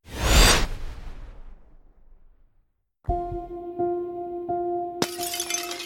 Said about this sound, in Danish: Det smadrede glas fra ruden falder til gulvet med et klir.